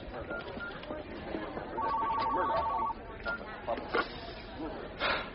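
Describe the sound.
A telephone rings with a steady electronic tone lasting about a second, a call from a pollster with Dan Benishek's campaign in Michigan, set against many overlapping voices and background chatter.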